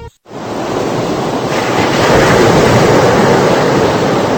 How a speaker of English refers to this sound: The beautiful sound of the ocean, but hidden within that sound are thousands of special subliminal messages. Your waking mind can't hear them, but your subconscious can.